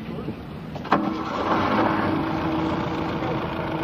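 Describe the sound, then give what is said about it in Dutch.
An old car engine, started by turning the key, catches with a brief sharp burst, then settles into a steady, rumbling idle with a low droning hum that carries on to the end. “Zal ik hem nog even starten, dan kan hij gelijk zien dat hij toch lekker loopt.”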